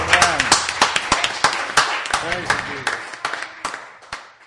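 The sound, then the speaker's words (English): A small group claps in quick, uneven bursts mixed with loud cheering and shouting voices, giving the Lord a cheer, the applause thinning and fading out over a few seconds. “Yeah, give the Lord a cheer.”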